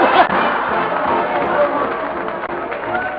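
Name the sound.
arena crowd cheering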